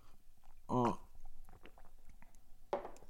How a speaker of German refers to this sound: Sorry, mal kurz von meinem Kaffee hier nippen.